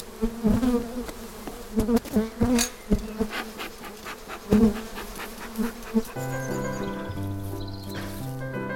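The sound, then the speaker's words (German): A dense, steady hum of many honeybees buzzing at an open hive of a honeybee colony in a garden on a steep south-facing slope in late March, with occasional louder passes and brief clicks, becoming an even drone toward the end. “Also das ist auf jeden Fall in Ordnung, das Bienenvolk.”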